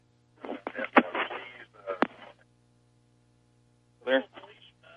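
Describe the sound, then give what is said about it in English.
Thin, tinny voices from a radio come through in short bursts over a steady low hum, with a pause of near-silence between them. “Go ahead and turn the radio off.”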